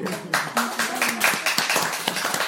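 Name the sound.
audience clapping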